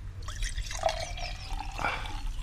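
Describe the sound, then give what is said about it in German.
Juice is poured into a glass, a steady, moderately loud liquid stream with bubbly gurgles and small splashes for a couple of seconds, and no one speaking. “Ich schiebe mir noch so einen Saft hier ein.”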